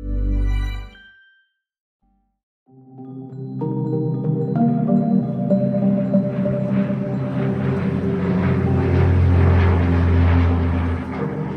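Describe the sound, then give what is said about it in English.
A research propeller airplane, sent by NOAA scientists in 2018 over five American cities to measure greenhouse gases, drones steadily and loudly, its engine hum rising with a rushing roar as it passes overhead, following a brief tone and a moment of silence. “In 2018, scientists at the National Oceanic and Atmospheric Administration sent a research plane over five American cities.”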